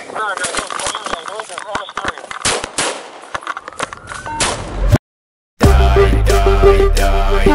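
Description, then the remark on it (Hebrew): Rapid bursts of loud gunfire crackle for about five seconds at the police square in Hadera, then a brief silence gives way to sustained music. “אני מדבר מכיכר המשטרה בחדרה, יש פה יריות.”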